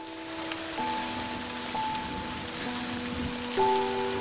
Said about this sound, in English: It's dark and raining hard.